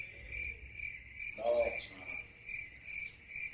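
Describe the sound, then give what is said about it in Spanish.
Crickets chirp steadily in a continuous, pulsing high trill, clear, with a brief low tonal blip midway and no voices, the quiet-night kind of chorus. “Sonaron grillos.”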